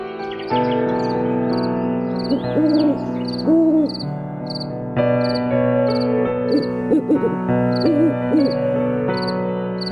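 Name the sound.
owl hooting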